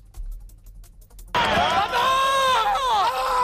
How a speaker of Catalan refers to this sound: Amb aquests crits van celebrar els jugadors blanquiblaus la victòria per 1-2 al camp de l'Osasuna, que els garanteix la permanència.